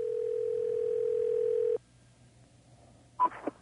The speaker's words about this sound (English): I'm going to hit a line here, and I'm going to call. I'm going to call Clyde's fishing hotline, and I hope it's not somebody's personal phone.